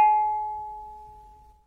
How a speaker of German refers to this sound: Mein Smartphone gongt und reißt mich aus dem Schlaf.